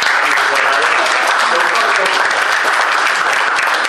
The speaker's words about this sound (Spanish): Fuerte aplauso y le damos la palabra.